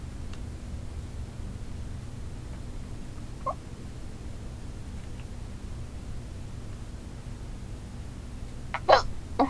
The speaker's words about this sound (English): Oh my god, these hiccups.